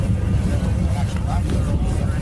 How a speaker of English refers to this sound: Queens County fishermen motored out at 7 a.m.